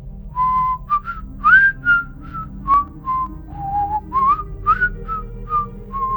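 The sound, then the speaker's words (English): A person whistles a wandering melody, clear, with short sustained notes and slides rising and falling over a low steady background rumble. “He mutters under his breath as he continues, like, getting close to the whistling.”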